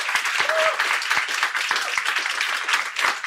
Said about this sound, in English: Can we have a big round of applause for them? Okay.